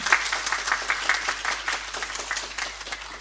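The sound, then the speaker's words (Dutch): An audience applauds steadily for a few seconds, a dense, even patter of many hands clapping at once without any voices breaking through. “Applaus mag wel even van de kosten.”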